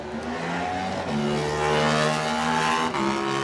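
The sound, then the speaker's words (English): Adam McLean's Flitwick Motorcycles Yamaha racing motorcycle engine screams loud, revving hard and climbing through the gears with quick shifts as it accelerates away at the start of its lap. No voices. “Next up, Adam McLean on the Flitwick Motorcycles Yamaha. He's away.”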